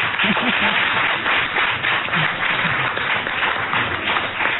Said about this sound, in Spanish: Vaya aplauso